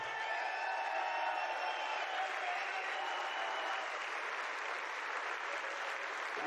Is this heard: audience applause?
yes